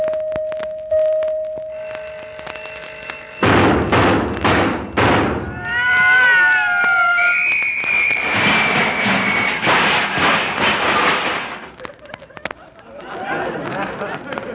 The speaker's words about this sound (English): I'm a little disappointed with that alarm clock you gave me last Christmas. That was a very good alarm clock. What's wrong with it? What's wrong with it? I'll show you. Listen.